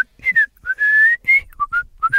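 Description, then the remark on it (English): A short whistled tune: a run of clear notes at shifting pitches, including one long held tone in the middle, with no talking. “Some people say it's just your heart whistling while it works.”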